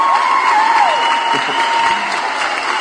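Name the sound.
applause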